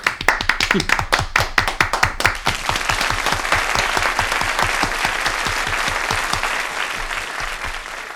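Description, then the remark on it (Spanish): An audience breaks into applause, starting with a few sharp, distinct claps that quickly merge into steady, dense clapping lasting several seconds at a fairly loud, even level. “Un aplauso, por favor.”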